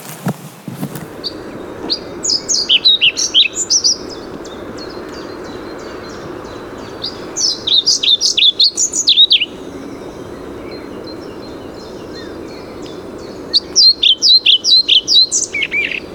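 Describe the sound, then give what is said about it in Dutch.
A European pied flycatcher sings three short, bright phrases of high chirping notes, spaced several seconds apart, fairly close, over a steady low outdoor hum with faint insect buzzing. “Deze vogel, dat is een bonte vliegenvanger.”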